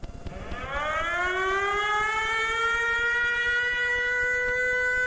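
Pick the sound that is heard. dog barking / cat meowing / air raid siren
air raid siren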